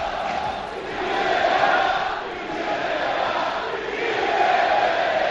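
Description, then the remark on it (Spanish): A large football crowd in Málaga chants in unison, a dense roar of many voices that swells and fades twice in a steady rhythmic cadence, loud throughout with no single voice standing out. “Ayer en Málaga se oían estos gritos.”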